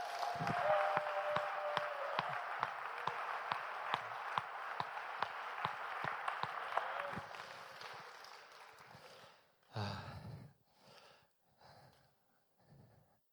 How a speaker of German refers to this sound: Und geben wir doch Jesus nochmal so einen richtig großen Applaus.